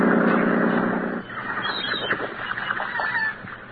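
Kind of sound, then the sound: bird, seagulls calling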